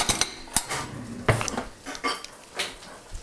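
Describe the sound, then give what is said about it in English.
Metal kitchen utensils clatter and clink as someone rummages through a drawer looking for a garlic press, a rapid series of sharp jangles and taps with no talking. “And I'm going to put that through my garlic press whenever I can find my garlic press. There it is.”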